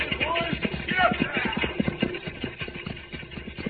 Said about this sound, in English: Look, Cisco, the stagecoach to Brimstone comes. They must be in a hurry. Those horses are at a high gallop.